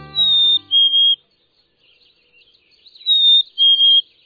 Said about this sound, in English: Of all the birds that turn up at bird feeders, chickadees, ever perky, smartly dressed in black and white, are favorites, and they're instantly recognizable as chickadees.